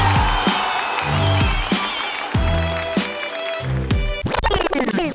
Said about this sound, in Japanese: レイムに大きな拍手を。